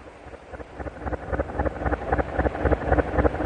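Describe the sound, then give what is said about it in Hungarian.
A large engine-driven steamboat on a river heads straight toward the people on the water, its heavy low rumble and rhythmic thumping growing steadily louder over rushing water and wind. “Huck, a hajó! Vigyázz, egyenes ránk!”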